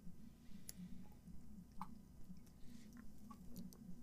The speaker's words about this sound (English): I'm sorry, I'm gonna take some water real quick.